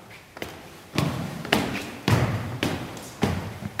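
A school principal's footsteps ring out at a steady walking pace in a stairwell of the Catholic Canisius-Kolleg in Berlin, about six hard heel strikes, each trailing a short echo off the bare walls. No one speaks.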